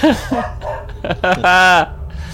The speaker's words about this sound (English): And a dog howling in the background.